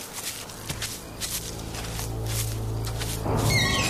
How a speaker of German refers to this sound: Habt ihr das gehört? Ich glaube, das war ein rostiger Baukran, der im Wind quietscht.